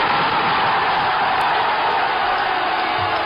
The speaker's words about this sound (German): Und das Stadion an der Hafenstraße war einfach legendär. Ich meine, ich habe mal so einen Torjubel mitgebracht, wie das klang, wenn Essen getroffen hat in den 70er Jahren.